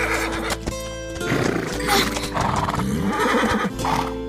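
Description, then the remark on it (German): A frightened horse whinnies and snorts, with clopping hooves and shuffling movement, sounding agitated over several seconds with no one speaking, as it pulls in the opposite direction from the people trying to lead it. “Doch das Pferd zieht in die andere Richtung.”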